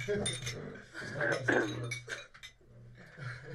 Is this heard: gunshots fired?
no